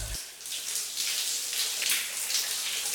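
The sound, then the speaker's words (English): A large shower with jets in the wall runs steadily, a dense, bright hiss of spraying water with faint pattering flickers, continuous and fairly quiet throughout, with no voices. “Shower acoustics are the best.”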